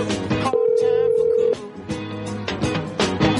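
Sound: telephone busy signal tone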